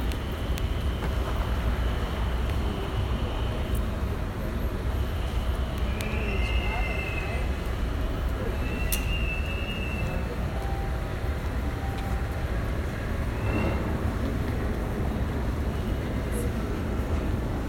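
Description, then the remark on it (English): An airport tram train rumbles steadily into the platform, a continuous roar with brief high metallic squeals from the wheels or brakes, while muffled voices murmur faintly underneath. “Please stand clear of the doors. The train is arriving.”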